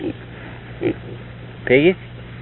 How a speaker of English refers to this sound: Hi, little piggy. Come on, talk.